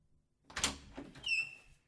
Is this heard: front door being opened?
yes